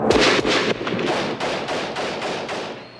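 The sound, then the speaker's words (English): A rapid volley of gunfire during El Salvador's civil war, sharp shots cracking out every fraction of a second over a continuous rumbling din, loud and sustained with no voices. “And just a warning here, this piece begins with the sound of gunfire.”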